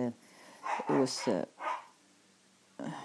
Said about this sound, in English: I got dogs here, by the way. They're playing. I call them the zombie crowd because that's what they sound like when they really get going.